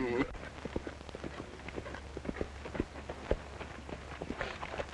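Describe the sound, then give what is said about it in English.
A racehorse's hooves gallop on a track at a fast breezing pace with a long stride, in quick, uneven rhythmic thuds over a steady low rumble, with a brief voice at the very start. “What speed and what a stride. 112 breezing.”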